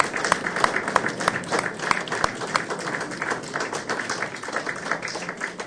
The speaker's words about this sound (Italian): Ma bisogna fare un applauso agli under 12 che hanno resistito lo stesso fino a questo.